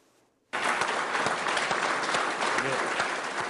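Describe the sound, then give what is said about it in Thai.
Scientists at the Indian Space Research Organization burst into loud, sustained applause after a brief quiet moment, dense clapping mixed with scattered cheers and shouts that continues steadily to the end, on Wednesday morning as India's spacecraft successfully enters orbit around Mars. “เสียงปรบมือและเสียงเชียร์ของนักวิทยาศาสตร์ที่ Indian Space Research Organization เมื่อเห็นยานอวกาศของอินเดียเข้าวงโคจรของดาวอังคารได้สำเร็จเมื่อเช้าวันพุธนะคะ”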